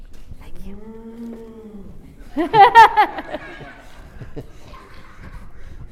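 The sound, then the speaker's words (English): Children's voices mimic sheep bleating: a drawn-out 'baa' followed by a louder, wobbling burst of bleats tangled with laughter, over soft background chatter. “Does sheep make a noise? Here's a shepherd. Bah.”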